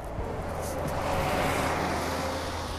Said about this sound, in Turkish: Otobüs geçiyor.